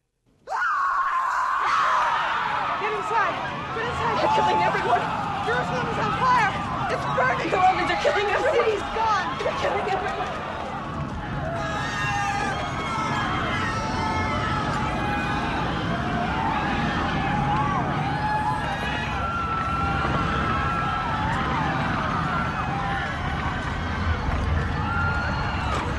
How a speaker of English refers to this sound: And the screaming tape loop in the background is you, right? You betcha. Okay. So bring on the screams. This is Ileana Douglas okay.